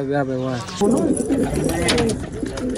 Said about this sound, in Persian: هر روز صبح برای تماشای پرواز کفترهایش در آسمان کابل بالای بام میاید.